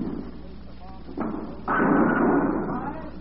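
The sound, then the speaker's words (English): A bowling ball rumbles down the lane, then two thuds and a loud, sustained clatter of pins going down, ringing on for over a second before easing off. “Sending your money knocking pins down.”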